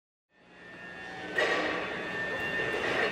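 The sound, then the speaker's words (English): Steady industrial machinery ambience in a huge CTA train repair warehouse in Skokie where crews rebuild train components, a droning whine that fades in, then jumps louder partway through and keeps roaring with faint clanks; no one speaks. “I'm at a CTA shop in Skokie. It's a huge warehouse. Train parts fill the shelves from floor to ceiling.”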